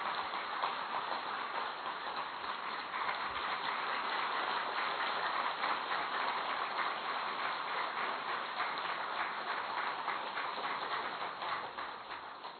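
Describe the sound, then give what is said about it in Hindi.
A group at a yoga session claps hands steadily for several seconds, a dense, continuous patter of many palms, keeping up a fairly even rhythm without any talking over it. “अभी थोड़ा ताली बजाओ जरा अच्छी तरह से।”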